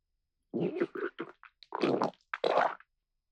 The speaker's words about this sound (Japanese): おなら漏れそう。